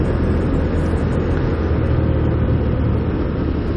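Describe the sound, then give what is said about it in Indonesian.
Steady, loud roar of a motorcycle riding along a road, the engine drone blended with heavy wind rush, continuous with no pauses and no voices, recorded with a recording setup mounted on the motorcycle. “Ya, kali ini gua melanjutkan settingan record di atas motor.”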